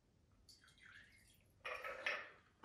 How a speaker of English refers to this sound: We've got a nice chilled glass now. Stir. We're going to strain and pour.